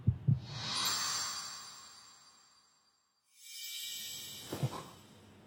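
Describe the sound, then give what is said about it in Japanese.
A deep, muffled heartbeat sound effect thumps in double beats, once at the start and again near the end, with a soft airy whoosh swelling and fading between them. No one speaks. “ただでさえ最近水原にドキドキしっぱなしだってのに。”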